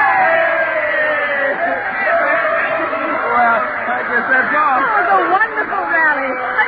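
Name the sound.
student crowd cheering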